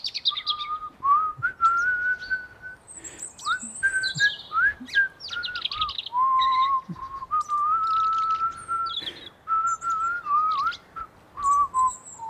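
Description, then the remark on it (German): A grandmother whistles a gentle, wandering little tune in a garden while throwing herbs into water, with steady held notes and small pitch slides, while scattered bird chirps and tweets sound in the background. “Oma warf die Kräuter ins Wasser und pfiff dabei ein kleines Lied.”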